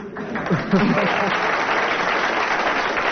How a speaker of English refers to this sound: I thought you'd have got more applause from the audience, but...